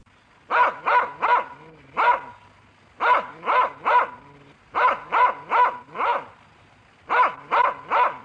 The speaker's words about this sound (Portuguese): É um cachorrinho.